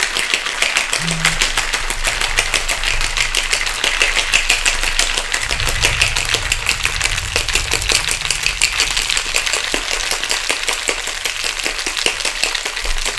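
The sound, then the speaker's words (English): A cocktail shaker holding a cocktail made with cream is shaken hard and steadily for over ten seconds, ice rattling in a fast, dense stream of sharp clicks over a faint low hum. “A little extra shake there because it's that cream. You want to be able to mix everything in there, right?”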